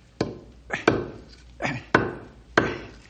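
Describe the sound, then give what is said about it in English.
Whittling wood: a series of sharp knife strokes, about six, each a crisp bite followed by a brief rasping scrape, falling in an uneven rhythm with no talking. “Got to whittle this down a bit.”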